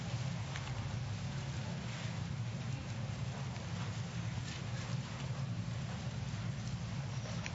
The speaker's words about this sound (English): I love to hear Bible pages turning. You know what? I love that you're a church that brings their Bible.